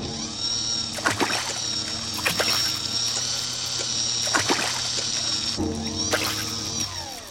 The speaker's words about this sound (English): The robot takes the bucket and throws the water over the floor. Then it picks up the bucket, fills it with water, and throws the water over the floor again.